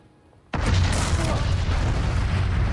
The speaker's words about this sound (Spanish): Cuando el Monte Pelier hizo erupción a las 8:02 de la mañana del 8 de mayo de 1902, la explosión produjo un sonido tan potente que se oyó en Venezuela, a 800 kilómetros de distancia.